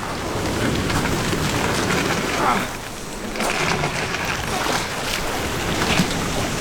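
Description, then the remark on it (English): A boat being rowed through water, with steady splashing and sloshing under a continuous wash of rain-like noise. Occasional stronger splashes stand out, and no one speaks. “I rowed on with renewed vigor.”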